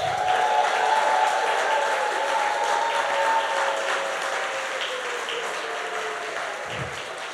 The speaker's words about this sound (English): All the fathers in the house, I just want you to raise your hands, and I want everyone else to look around and give them a big, big, big cheer right now.